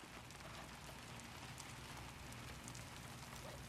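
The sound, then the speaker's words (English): Steady rain streams down window panes, a continuous dense hiss with soft scattered droplet taps throughout, even in loudness, with no voices present. “Rain streams down the window panes as Jimmy looks outside.”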